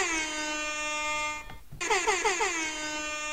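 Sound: air horn blasts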